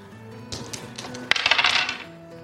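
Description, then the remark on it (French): Dice rattle and clatter across a hard surface for about a second and a half, a burst of quick, bright clicks that tumbles faster before settling to a stop, rolling a 42. “Lance les dés et fais moins de 50.”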